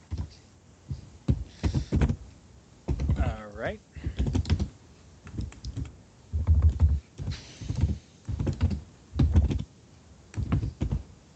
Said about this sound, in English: I hear furious typing. That's me.